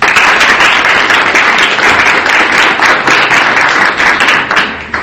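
An audience applauds steadily and loudly, a dense wash of many hands clapping that holds for several seconds before tapering off slightly at the end. No voices are heard.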